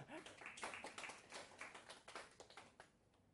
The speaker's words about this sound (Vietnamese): Ồ, quá hay. Xin một tràng pháo tay để khích lệ cho anh bạn này.